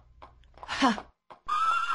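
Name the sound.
horse neighing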